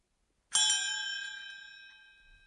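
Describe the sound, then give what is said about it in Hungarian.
A single bright bell strike rings out with a sharp attack, then its clear metallic tones hang and slowly fade over a couple of seconds, fairly loud, with no voices. “Mintha előhívná a régi harang készítő mester arcvonásait, a házat, ahol a harangot készítette, a falut, melyben a ház állt, a hegyeket, amik a falut körülvették.”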